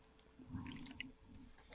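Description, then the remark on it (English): A few soft gulps and sloshing of liquid as someone drinks from a bottle of water, brief and quiet with no talking. “Working on my bottle of water here.”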